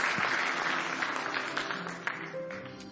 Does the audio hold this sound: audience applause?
yes